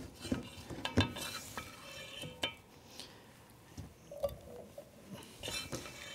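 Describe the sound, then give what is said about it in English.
Pieces with a spicy chickpea coating shallow fry in oil for a couple of minutes with a steady, crackly sizzle, punctuated by irregular metallic clinks and scrapes of a utensil against the pan. No one speaks. “And that'll just take a couple of minutes just to fry up, and then we'll give them a bit of a flip.”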